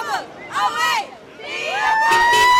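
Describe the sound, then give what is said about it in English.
A small crowd of young voices, a dozen college Democrats from UNC Greensboro holding an impromptu honk and wave while waiting in line for an Obama rally in North Carolina, chants and cheers in loud, rising shouts, building toward a sustained, energetic yell near the end. “A dozen college Democrats from UNC Greensboro held an impromptu honk and wave as they waited in line.”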